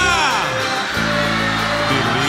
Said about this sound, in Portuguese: agora eu quero ouvir o grito da galera agora, vamos lá!